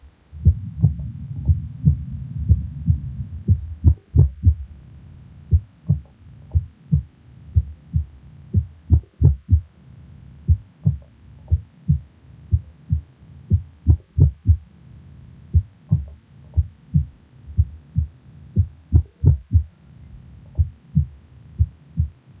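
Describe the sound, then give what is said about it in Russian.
Muffled heartbeat thuds of a heart with extrasystoles, in a steady rhythm broken by occasional premature beats, each followed by a slightly longer compensatory pause, with a louder first heart sound at the premature beat, over a low hum that is strongest at the start. “При экстрасистолии на фоне правильного ритма слышны одиночные преждевременные сокращения сердца, после которых следует компенсаторная пауза.”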